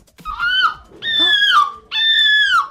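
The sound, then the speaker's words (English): A person, one of the three best entries in a seagull imitation competition, imitates a seagull with three loud, drawn-out, nasal cries, each wavering and sliding downward in pitch, separated by brief pauses and with no other voices. “Before you can really imitate a gull, you have to make nice observations.”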